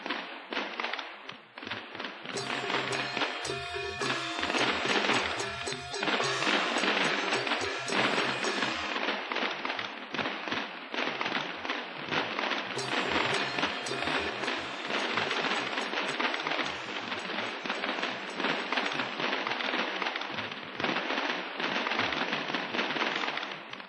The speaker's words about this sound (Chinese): 噼里啪啦的鞭炮声从傍晚开始就没有中断过。这一带的居民虽然三教九流，龙蛇杂处，但是过年的气氛却一点也不输给有钱人家。每个人都希望借着成串的鞭炮赶走过去一年的霉运，迎接来年的新希望。